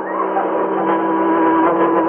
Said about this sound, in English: But what's that? I hear it, too. It's a car. Oh, I can't see over this wall. It's coming right past us.